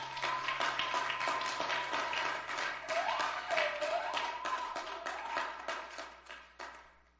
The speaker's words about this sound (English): Why don't you clap for Jesus?